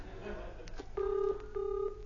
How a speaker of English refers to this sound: I can hear a phone ringing in your warehouse. Oh, run in and answer it, will you?